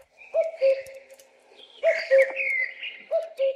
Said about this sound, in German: Ach ja, und die Vogelstimmen, die ihr hier im Hintergrund hört, die kommen von einer Schallplatte.